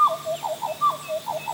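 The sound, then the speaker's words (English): A female butcherbird sings in the rainforest, a run of mellow, flute-like whistled notes in quick repeating phrases, clear, with no voices. “She's singing her song to let the other birds know this is her part of the rainforest.”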